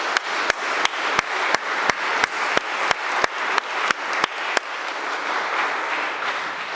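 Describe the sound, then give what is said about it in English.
A church audience applauds to thank church volunteers in a dense, steady wash, with sharp, evenly spaced claps from one person standing out for about four seconds before the broader applause carries on alone. “I think it would be appropriate to applaud for all those people now as a way of saying thank you to them.”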